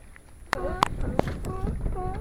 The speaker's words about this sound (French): Vous entendez ces bruits? Alors ça, c'est les lions de mer qui sont sur le ponton. À côté des bateaux de pêche, ils se font dorer la pilule. Alors les lions de mer, c'est très gros. Et puis ils sont tout mous, échoués sur un ponton et ils font